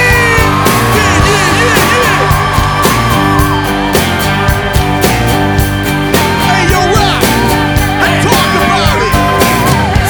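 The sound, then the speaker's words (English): A crowd yells and screams in loud, sustained bursts over a full live band playing steady, driving music with a pounding beat, the cheering mixed right in with the instruments. “Say hell yeah! Now scream!”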